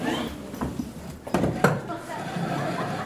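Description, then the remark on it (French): A chair is pulled closer for a woman to sit on, with a couple of sharp wooden knocks and a brief scrape over a quiet hum and faint murmuring. “tu veux bien approcher une chaise pour madame ?”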